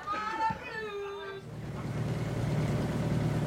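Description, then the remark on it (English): A boat's engine on a boat heading back to Belfast drones steadily with a low, continuous rumble and broad wash of water noise, rising in after a brief high tonal sound at the start. “On the boat back to Belfast, he just can't get it out of his head.”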